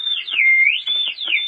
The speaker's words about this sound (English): The whistle!